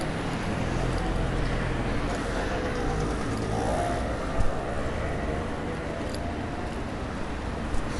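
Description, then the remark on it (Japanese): Steady, continuous rush of wind and road noise while riding a bicycle along a road, with a low rumble underneath and a couple of faint bumps; no one speaks. “こんなんどうですか、この自転車でただ人が走ってるのをずっと聞き続けるって、皆さん。”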